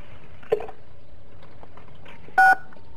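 Two telephone keypad tones from callers pressing six to mute themselves on a phone call sound over a quiet background hum: a short blip early on, then a longer, louder dual-tone beep near the end. No one speaks.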